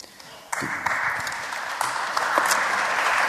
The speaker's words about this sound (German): Frau Horn, ich will Ihnen den Applaus lassen.